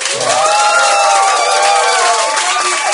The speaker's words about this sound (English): Can we hear some applause from our audience?